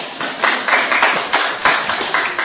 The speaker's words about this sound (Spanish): Un aplauso para nuestro judío.